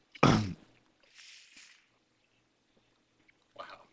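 Diet Dr. Pepper being sucked through a straw: a loud, sharp slurp, then a softer airy gurgle, then a brief final slurp after a pause. No one talks.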